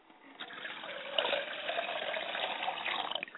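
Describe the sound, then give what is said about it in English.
Water pours steadily into a glass for a few seconds as an offering to ancestral spirits, a continuous splashing trickle that holds at an even level, with no voices. “I call on my mother and father's spirit, and I pour a glass of water for my father's family.”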